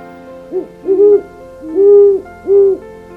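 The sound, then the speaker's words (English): A male great horned owl hoots a short series of deep, resonant notes in a 5 or 6 note pattern, a brief one first and a longer, drawn-out hoot in the middle, clear with no talking. “A male's hoots typically have a 5 or 6 note pattern.”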